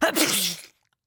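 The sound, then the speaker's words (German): A single stifled sneeze, abrupt, with a rough, breathy burst that sounds part cough, part grunt, part hiss, cutting off quickly into silence. “Doch das hatte leider nur zur Folge, dass das Niesen, das nun die Stille zerriss, sich wie eine gespenstische Mischung aus Husten, Grunzen und Zischen anhörte.”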